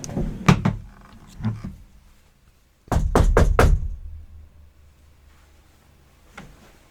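Knocking on a door: two quick knocks, a pause, then a louder rapid burst of four close knocks, followed by a faint tap near the end. No one speaks.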